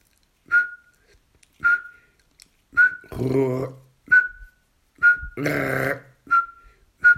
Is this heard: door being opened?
no